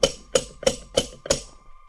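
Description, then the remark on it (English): Five sharp metallic knocks from a bronze door knocker shaped as a coat of arms, on the door of a house built as a replica of an English country house, evenly spaced about a third of a second apart, each with a brief ringing tone that lingers after the final strike. “There was no doorbell, just a bronze coat of arms that served as a door knocker. I knocked.”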